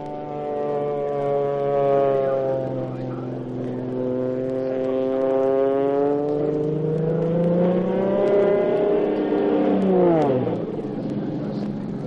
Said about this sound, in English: he'll do his best to stunt that plane all the way up to 10,000